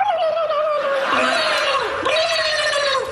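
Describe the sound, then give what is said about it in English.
News reporters imitate a turkey's gobble, in a clip from Jimmy Kimmel Live, producing a continuous warbling, throaty trill with wavering pitch that dips and rises, steady and fairly loud for about three seconds. “So again, for no apparent reason, news reporters trying to imitate turkeys.”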